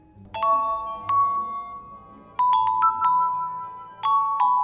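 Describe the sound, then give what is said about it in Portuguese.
A doorbell chime rings out alone, announcing a visiting violinist: a series of bright, sustained electronic tones struck in quick succession, pausing and then repeating in a second and third burst of notes. “Ah, certamente, pois essa campainha identifica os violinistas.”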